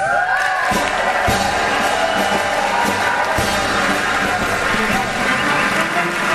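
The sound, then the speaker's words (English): A large, standing-room-only crowd applauds and cheers loudly and continuously, live, as the Vice President-elect of the United States, J.D. Vance, is introduced; a dense wash of clapping with rising whoops and shouts. “You should know that that applause is live at the nap that you're hearing there.”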